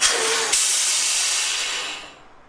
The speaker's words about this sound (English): David Huner and the sound of big rig air brakes.